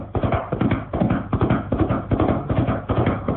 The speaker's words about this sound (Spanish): Calimán golpea los cuartos traseros del caballo y este sale al galope con Solín montado.